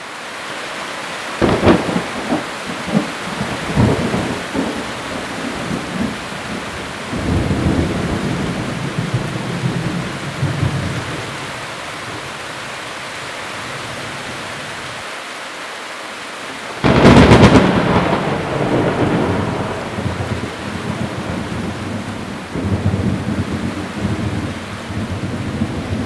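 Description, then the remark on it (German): A thunderstorm with heavy rain hissing steadily throughout, broken by close thunder from very near lightning, each bang coming half a second after the flash: a sharp crack early on, rolling rumbles, and a loud nearby clap around two-thirds through. No one speaks. “Okay, also die Blitze waren jetzt schon echt nah. Da wird echt kurz alles hier in gleißendes Licht getaucht. Und eine halbe Sekunde später tut es einen Knall, der echt fast in den Ohren wehtut.”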